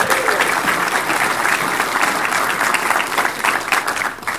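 Steady, dense clapping from an audience for a guest, filling the whole stretch, a loud continuous patter of many hands that holds evenly before easing slightly at the end.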